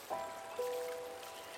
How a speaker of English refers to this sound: You notice that some leaves sail on the currents, bringing them to rest lightly in the stream flowing beside the lane. You watch as the leaves swirl round and round in the water, floating down the stream.